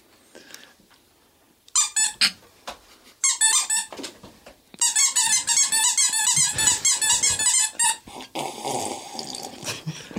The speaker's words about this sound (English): Is that better? Yeah, he had to blow his nose.